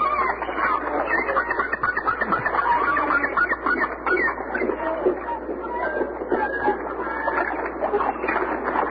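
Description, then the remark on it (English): Seagulls calling loudly, harsh squawking cries overlapping in a busy, continuous stream throughout. “You can't interrupt the seagull, you know.”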